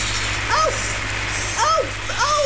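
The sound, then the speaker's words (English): Steady, hissing spray of hot water with a splashy wash, continuous throughout, while a few short voiced exclamations rise and fall over it. “Oh, there's so much water!”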